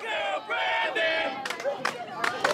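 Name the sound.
crowd chanting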